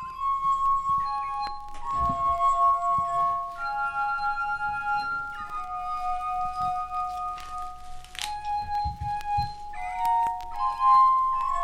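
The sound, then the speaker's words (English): A glass instrument played by a woman gives a slow melody of sustained, pure ringing tones that shift from note to note, with faint clinks and soft bumps underneath, steady throughout with no talking. “Who knew that one woman could make glass sound so lovely? Let's just tune into this for a second.”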